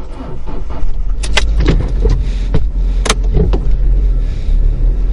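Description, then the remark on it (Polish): A car pulls out of a parking lot: a steady low engine rumble runs throughout, with several sharp clicks and light rattles scattered over it. No one speaks. “Mała tradycja się utarła, że większość moich podcastów prowadzę w samochodzie i zaczynam je w ogóle prowadzić w momencie, kiedy wyjeżdżam z parkingu.”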